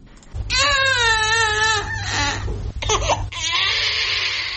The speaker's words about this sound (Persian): گریه کودکی که 3 روز می شود به دنیا آمده است، اما معلول و سوء شکل.